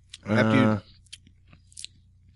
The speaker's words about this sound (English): You chew it. I mean, and you guys. You swoosh it around. And let it dissolve and whatnot when you chew it.